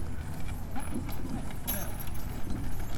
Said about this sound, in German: Da kommt das Gespann mit den Bullen, also oder den Ochsen.